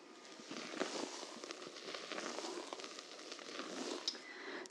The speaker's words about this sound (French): Bah, je ne sais pas si c'est la chaleur du chocolat qui se mélange avec les blancs en neige, mais c'est comme si ça crépitait tout doucement.